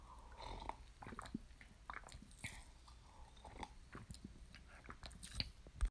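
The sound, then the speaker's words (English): A dog, Roxy, chews and bites while trying to eat food, with irregular wet crunching and clicking of its jaws over a steady low background, ending in one louder snap. No one speaks. “Stop trying to eat my food!”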